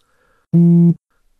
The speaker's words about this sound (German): Mein Handy vibriert. Einmal. Ich nehme es aus meiner Hosentasche.